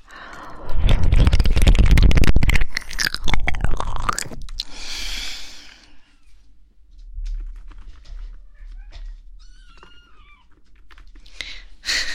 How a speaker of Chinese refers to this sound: 小猫在挠门，要进来。